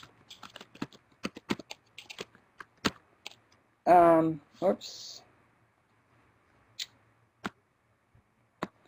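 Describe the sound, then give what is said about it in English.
Rapid computer keyboard typing with crisp clicks for a few seconds, then a brief burst of voice, followed by a handful of scattered, isolated keystrokes amid quiet. “I just wiped out what I was typing, but it's Roy P's website, or Roy P's video cases on TeachScape.”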